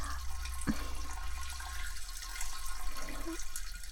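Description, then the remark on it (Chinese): A thin, steady stream of urine trickling continuously for a few seconds, soft, with no talking and a couple of faint drips or clinks along the way. “你可以稍微加一点力，把尿液往外挤的，这样还可以加快一点。”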